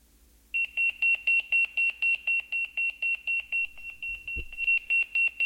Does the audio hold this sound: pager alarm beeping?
yes